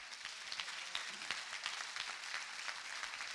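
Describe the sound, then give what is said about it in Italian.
An audience at a worship service applauds God, called the King. It is a dense, steady wash of many hands clapping at once with sharper individual claps popping out, sustained throughout without any voices standing out. “Facciamo un applauso al Re.”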